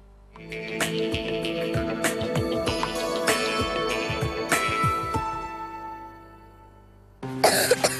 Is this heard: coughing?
yes